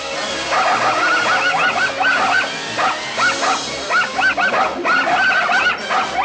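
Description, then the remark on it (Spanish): Several puppies yap and bark excitedly in quick, overlapping bursts, high-pitched, with little whimpers mixed in and a steady background hum throughout. “Los cachorros se alborotan.”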